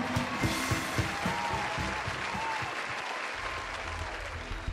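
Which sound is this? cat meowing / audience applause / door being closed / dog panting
audience applause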